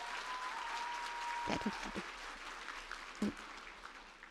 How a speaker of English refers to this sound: Big round of applause, Sheikh Kamal al-Makki, everyone.